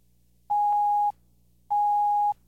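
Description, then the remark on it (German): Two steady electronic telephone tones, each about half a second long with an equal pause between, clear and fairly loud against a faint low hum. There is no talking. “Das Telefon läutete.”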